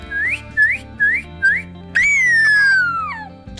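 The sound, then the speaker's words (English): A person in Memphis, Tennessee, whistles a bird call imitating an American cardinal: four short, quick upward-sweeping notes followed by one long, loud whistle that slides slowly downward and drops off at the end. “You want to give us a little bird call?”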